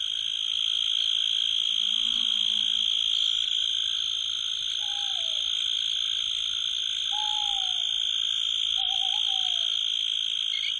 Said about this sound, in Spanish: El alacrán cebollero rechina de forma contundente.